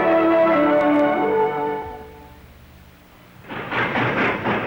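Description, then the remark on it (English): A railroad car travelling through Pennsylvania's coal fields: a loud, sustained whistle-like chord slowly fades, then a burst of rattling, rhythmic clatter on the tracks rises, with no one speaking. “Railroad car clatters through Pennsylvania's coal fields almost a century ago.”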